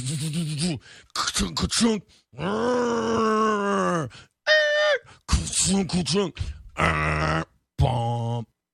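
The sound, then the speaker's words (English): A voice mimics a truck with loud growling, groaning vocal bursts: choppy sputters, a long sustained rumbling drone, a brief higher-pitched whine, and a couple of final engine-like groans. “When does what does movies truck sound like again? Oh, something like that.”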